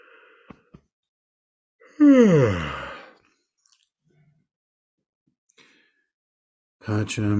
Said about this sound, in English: After I yawn one more time.